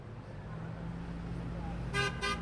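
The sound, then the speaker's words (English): Two short, bright car horn honks sound in quick succession near the end, over a steady low rumble of passing traffic: drivers honking in support of about 20 people at a demonstration inspired by the Occupy Wall Street protests in Spartanburg, South Carolina. “About 20 people getting some honks of support and some catcalls, people shouting, "Get a job."”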